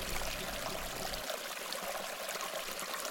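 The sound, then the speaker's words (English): A gentle stream of water, Mud Creek in northern Scott County, Iowa, flows steadily, with a continuous soft rushing and babbling at moderate volume and no voices; a low rumble underneath fades out partway through. “I feel like a gentle stream moving across the landscape, and I'm dealing with my water load very, very well.”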